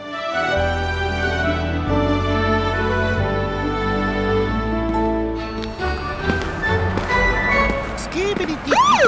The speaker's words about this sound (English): That's a cool siren.